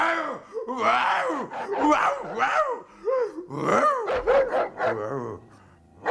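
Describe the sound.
A voice, made bold by schnapps, imitates a fierce barking dog with a run of loud, gruff, rapid barks and growls, filling the whole stretch with only brief pauses between bursts.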